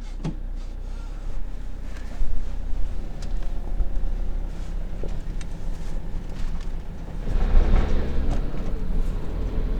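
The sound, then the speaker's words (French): Steady low engine and road rumble from a camper van on the move, heard from inside, with wind buffeting and a brief swell in noise near the end. “Allez, en voiture, non, en camping-car.”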